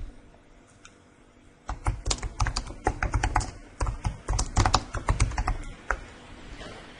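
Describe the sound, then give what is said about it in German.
Rapid typing of text on a computer keyboard starts after a brief quiet moment, a steady stream of crisp key clicks lasting several seconds with small pauses between bursts, no voices. “Und jetzt können Sie Ihren Text eingeben.”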